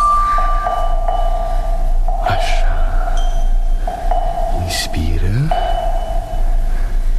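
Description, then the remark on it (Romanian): A fetal heartbeat monitor in the radio play Primul strigăt sounds a steady electronic tone with periodic pulses and a low background hum as the fetal heartbeats become clearer, while a person speaks briefly over it. “Domnule doctor, bătăile inimii fetusului încep să se audă mai bine.”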